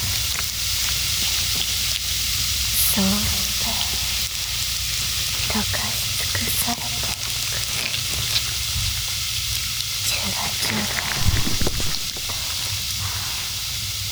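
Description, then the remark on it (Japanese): A steady fizzing sizzle of something dissolving fills the whole stretch, a dense bright hiss peppered with tiny crackles and pops, with no one speaking. “シュワシュワと溶かし尽くされて、溶かし尽くされて、溶かし尽くされていく。”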